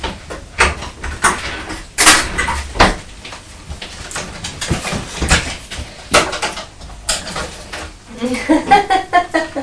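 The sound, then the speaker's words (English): Scissors are put away and clatter into a drawer amid a run of sharp knocks and rattles from the drawer sliding and shutting; a voice murmurs near the end. “Pop the scissors away in the drawer.”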